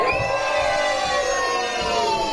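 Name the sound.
audience screaming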